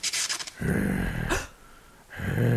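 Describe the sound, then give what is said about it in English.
A reanimated giant pickle breathes in rough, raspy bursts, then lets out a low, drawn-out growl, pauses with a sharp inhale, and growls again, fairly loud with no talking. “It happened. It's breathing.”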